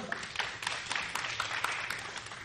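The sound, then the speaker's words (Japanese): A crowd of people applauds a person who read the Bible every day for ten years, with steady dense clapping and many overlapping hand claps, moderately loud and continuous with no voices on top. “読みました、素晴らしい、拍手。”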